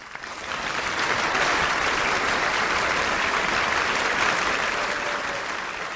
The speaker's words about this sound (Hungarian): Taps a meghívottaknak.